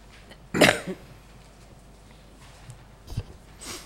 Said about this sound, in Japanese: すいません、ちょっと風邪をひいているようで咳をしますが、すいません。なるべくマスクやハンカチで抑えるようにします。すいません。風邪です。風邪ですよ。